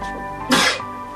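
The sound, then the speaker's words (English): One quick, sharp sneeze bursts out, a brief breathy explosion that fades within a fraction of a second, with no talking around it. “Bless you.”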